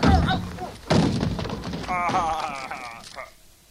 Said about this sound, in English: I think your punch shattered his fragile alien skull.